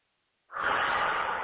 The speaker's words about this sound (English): So the first thing is to sit down in a chair and close your eyes and just take a few deep breaths. A deep breath, let me just demonstrate a deep breath. It'd be like this.